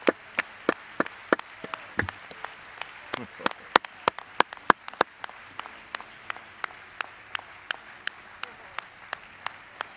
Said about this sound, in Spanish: Vamos a darle un aplauso al Señor.